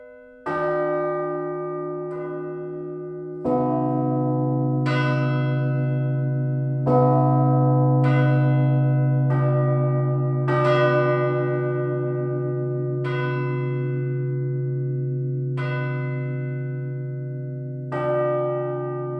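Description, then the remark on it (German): Several church bells peal together at midday in the city of St. Gallen, Switzerland, their ringing timed by a phone app, in an overlapping, steady ringing, with fresh strikes every second or two over a sustained humming resonance. Loud and full, with no voices. “Aber Reklamationen haben er wegen dem Glockengeläut bis jetzt noch keine gehört,”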